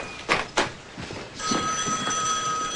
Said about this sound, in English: At the Mulvaney's, Corin answers the phone.